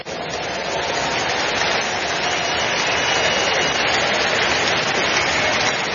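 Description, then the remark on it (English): An audience applauding in praise of the Lord, a dense, steady wash of clapping that rises quickly and holds at an even, loud level for about six seconds with no distinct voices. “Give the Lord a big hand of praise.”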